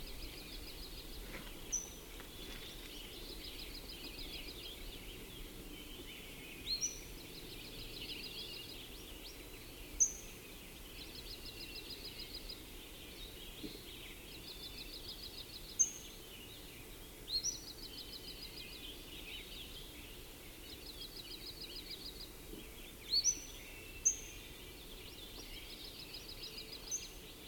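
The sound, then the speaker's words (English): Quiet birdsong from two birds: repeated short bursts of rapid, buzzy high chirps, with a few sharp, isolated high-pitched single notes breaking in now and then over a soft background hiss. One bird gives the single high-pitched notes, the other the regular location notes. No voices. “The single high-pitched note right then was given by one and the regular location note by another one, I think.”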